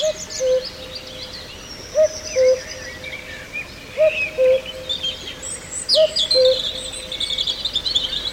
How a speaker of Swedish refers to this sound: I fjol hörde vi faktiskt en gök här som var på Djurgården, men i år har jag inte haft förmånen att få höra den. Men visst är det trevligt med en gök.